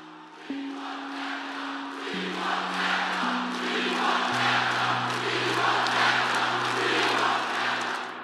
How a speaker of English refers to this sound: It was a rallying cry for his supporters at this rally. It was something that ginned up cheers and applause.